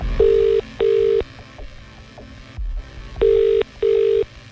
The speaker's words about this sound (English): Now, let's make a phone call. If we're about to call you back, if your phone's about to ring, you know the deal. You have to answer the phone a very particular way, okay?